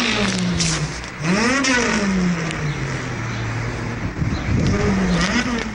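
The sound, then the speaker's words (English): A man's voice, from a man sitting under the hood of a Honda, imitates the car's engine revving with launch control, with rising and falling pitch sweeps like throttle blips, loud, continuous for several seconds. “There's no engine. It's a guy sitting under the hood imitating.”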